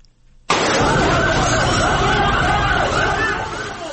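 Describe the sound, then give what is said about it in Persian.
A fire engine siren starts abruptly after a brief quiet moment and wails loudly and continuously, its rising and falling tones layered over dense, rumbling traffic noise, as the engine arrives to fight a fire at the COVID-19 hospital in Ghor province, Afghanistan, caused by a gas heater explosion. “صدای موتری آتش فشانی است که برای مهاری آتش سوزی به محل این رویداد آمده است.”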